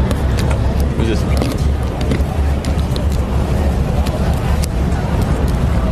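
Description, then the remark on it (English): Heavy military trucks rumble past, a loud, continuous low engine roar with road noise filling the whole stretch, while a person briefly speaks over it. “Just the trucks?”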